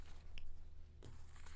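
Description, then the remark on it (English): Dry crinkling and rustling of paper, with a couple of sharper crackles breaking through a soft, steady background hiss. No one speaks. “Sorry for all the rattling of the paper.”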